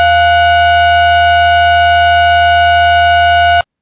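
A loud, steady electronic tone holds one unchanging pitch with bright harmonics and a low hum beneath, sounding like a phone or alarm going off, then cuts off abruptly after about three and a half seconds.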